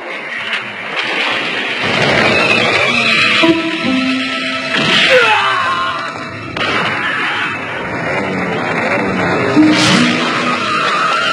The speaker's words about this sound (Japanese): また始めやがったガキどもが、バカでかいバイクを扱って悪さして手がつけられやしに。まるで町の支配者気取りだ。